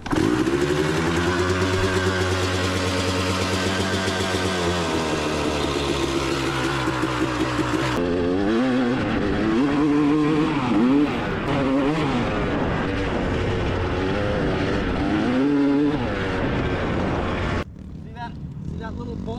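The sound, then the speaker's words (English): 125cc motorcycles rev hard at full throttle, a loud buzzing drone holding steady at first, then whining up and down in repeated pitch sweeps as the engines scream. “They look like they're 125s, but they're fucking smashing it.”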